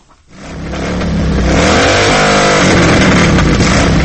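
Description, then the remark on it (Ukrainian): A Honda motorcycle, one of 85 on a Polish Katyn memorial motor rally, starts up and revs loudly beside the Consulate General of Poland in Kharkiv, its pitch climbing and holding as the throttle opens, with no talking over it. “Мотоцикл «Хонда» – один із 85, зупинився поруч із Генеральним консульством Республіки Польща в місті Харкові.”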